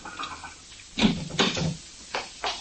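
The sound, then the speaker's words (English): A car door opens and shuts with a few muffled clunks and latch clicks, spread over a couple of seconds against a quiet background, with no one talking. “Close that door gently”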